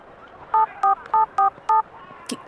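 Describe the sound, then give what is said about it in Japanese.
Five short electronic telephone keypad beeps in quick, slightly uneven succession, each a clear dual-pitched dialing tone, as someone dials the director at Atelier Sakura, distinct over quiet background noise, followed by a faint click. “貴様、いきなりどこに電話しているんだ？”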